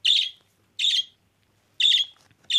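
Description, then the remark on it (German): A budgerigar gives four short, shrill chirping calls at uneven intervals, loud, with quiet pauses between them and no voices. “Das war ein Wellensittich.”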